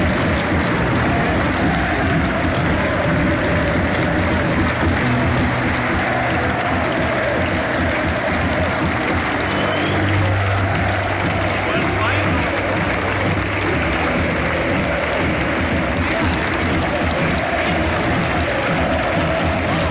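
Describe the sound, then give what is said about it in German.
A large crowd at a Regionalliga football match in the Preußen-Stadion of Preußen Münster roars and applauds steadily, a dense, continuous wash of clapping and cheering voices with low chanting tones swelling midway, loud throughout. “So, hier sind sie, die exklusiven Aufnahmen aus dem Preußen-Stadion. Große Stimmung in der Regionalliga.”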